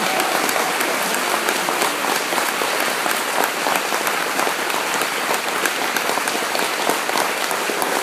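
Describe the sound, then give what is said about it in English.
A crowd claps their hands together in sustained, dense applause, many overlapping claps forming a steady, loud wash of sound with no voices rising above it. “See, every time you clap your hands lately, that's just telling me, I got the Holy Ghost, devil.”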